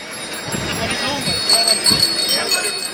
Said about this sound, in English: Of course, today, June 16th, Bloom's Day. Start off celebrations of James Joyce's Ulysses. We had fans cycling around Dublin in Edwardian dress with their bicycle bells ringing.